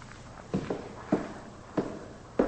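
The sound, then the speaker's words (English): Footsteps of someone walking out, four or five moderately loud, dull steps at a steady, unhurried pace over a faint background hiss, with no talking. “walks out.”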